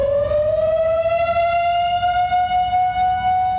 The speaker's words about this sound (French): Le 15 juin 1955, la sirène de la centrale se déclenche à 4h30 de l'après-midi.